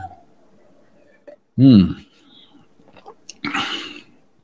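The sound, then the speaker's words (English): Someone takes a sip of beer: a loud, brief voiced gulp, then after a pause a breathy, hissing slurp or exhale, with a faint low hum underneath. “I just think that this is an amazing time, and maybe I'll just take a much needed sip of beer and read what the comments are saying.”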